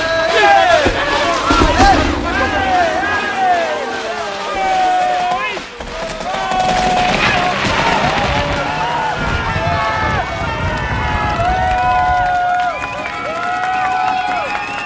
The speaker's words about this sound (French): Elle est tombée, vous entendez la foule en liesse derrière moi. Tout le monde est ravi, heureux.